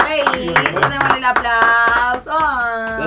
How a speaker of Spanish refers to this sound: Eso, démosle el aplauso.